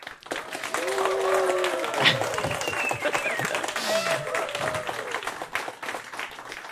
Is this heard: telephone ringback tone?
no